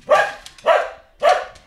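A dog barks three times in a steady rhythm, each bark loud and close with a short pause between, and no other voices or sounds around it.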